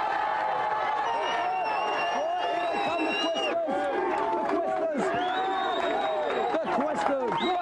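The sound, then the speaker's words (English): A crowd cheers and whoops loudly and continuously, a dense wash of many voices with rising shouts layered over it, sustained for several seconds without letting up. “Right, give them a big cheer.”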